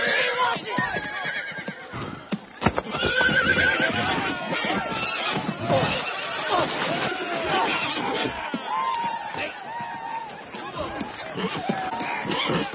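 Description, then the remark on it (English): Horses whinny and neigh repeatedly amid a dense, noisy commotion of crowd voices and shouting, with the clatter of hooves mixed into the continuous din throughout. “Forget the horse, lad, and find yourself a donkey.”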